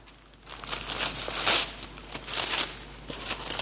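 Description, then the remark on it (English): Wrapping paper crinkles and tears as it is torn off a present after its ribbon is removed, in a few bright, scratchy bursts over several seconds, rising and falling in loudness with no one speaking. “And then tear the paper off.”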